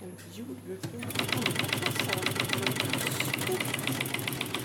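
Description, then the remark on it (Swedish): A large braille printer at a braille book printshop, printing an agriculture book for second-grade pupils, hammers away in a fast, steady mechanical rhythm of sharp, evenly spaced clatters that starts abruptly and keeps going loudly, spitting out paper from a hatch on its front, with a voice faintly audible at the beginning. “En jordbruksbok för andra klasser håller på att komma ut ett stort jäkla åbäcke till punktskrivare.”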